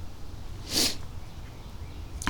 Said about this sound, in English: Loud, audible gasp.